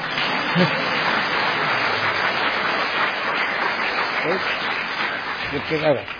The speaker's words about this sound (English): If you're going to clap, clap properly.